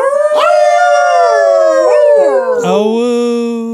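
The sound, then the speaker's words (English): A person imitates a dog's howl, one long sustained wavering cry that rises, slides downward and breaks into a lower tone near the end, loud. “Howl noise.”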